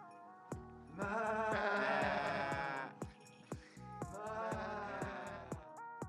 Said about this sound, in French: Il fait chaud et il y a des chèvres qui mangent de l'herbe.